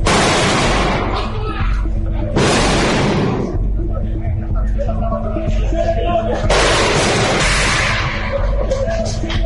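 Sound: firecrackers bursting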